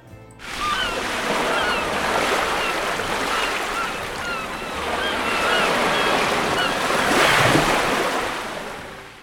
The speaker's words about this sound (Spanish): Muchos tienen la imagen romántica del farero viviendo en un lugar aislado de la costa, en donde solo se escuchan el sonido del mar y de las gaviotas.